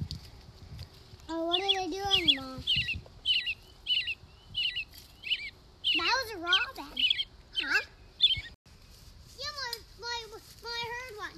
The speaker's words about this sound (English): You heard a robin? You hear that? I do hear some birds. Is that the robin? Let's listen.